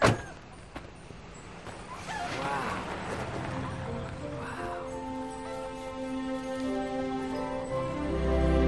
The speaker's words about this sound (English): Wow. That's our old car! Right here, guys.